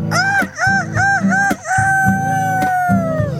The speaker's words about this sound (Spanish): El gallo que está ronco